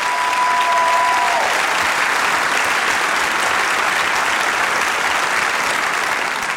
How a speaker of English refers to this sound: And so I just want you to, they're all backstage right now, but let's just give them a round of applause and thank them for sharing in our service today.